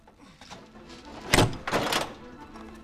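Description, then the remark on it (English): The bolt of a wooden dungeon door is drawn back by a hand reaching through a hole cut in the door: a sharp metallic clack, then a short grating slide of metal on metal, with faint handling noises before and after. “Then he reaches through and feels his way to the bolt.”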